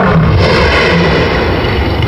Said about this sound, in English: They roar to intimidate intruders and to avoid confrontations with rival males. Fights can be costly, even fatal. These cunning cats have developed a language. The pride males roar.